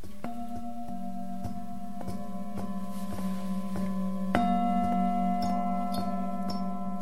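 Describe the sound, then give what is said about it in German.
A gong, hung vertically and swinging freely, struck repeatedly, its deep metallic hum ringing steadily and layering with each blow, then a stronger stroke midway brightens the shimmering tone. No voices. “Wenn man ihn anschlägt, entsteht ein sehr kräftiger anschwellender Ton, der lange ausklingt.”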